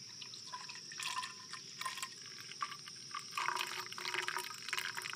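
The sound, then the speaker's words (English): Water pours from a canteen in a steady, gurgling stream with splashy bursts, fairly quiet, with no talking over it. “Toss me a canteen. Turning water.”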